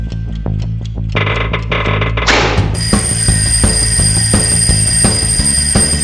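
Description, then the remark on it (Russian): A rhythmic clattering builds to a short crash, then a loud mechanical alarm clock bell starts ringing nonstop, bright, over a low steady background hum. “кажется, звонит мой будильник.”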